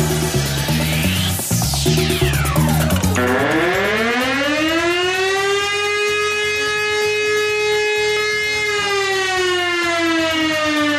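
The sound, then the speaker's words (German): A loud civil defense alarm siren, sounding in Austria's nationwide annual civil protection test alarm on Saturday, 3 October, sweeps down in pitch, then holds a steady, piercing wail with rich harmonics that sags slightly lower at the end. No one speaks. “Ja, wer kennt es nicht, dieses ohrenbetäubende, durchdringende Geräusch, die Alarmsirene.”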